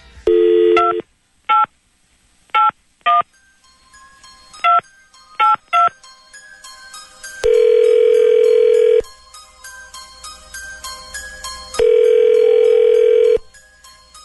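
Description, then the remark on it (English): A quick series of touch-tone telephone dialing beeps in an uneven rhythm, followed by two long ringback tones with a pause between them, clear with no talking. “Okay, so let's make a little phone call here.”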